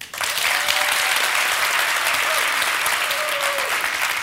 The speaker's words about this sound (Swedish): Men alltså, ni som tycker om åldras, ni applåderar nu.